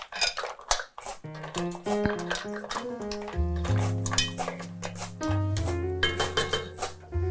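A rush of mussel shells clattering and clinking as they are tipped into a cooking pot, a dense burst of hard rattles that thins into scattered clinks over a steady tonal backdrop.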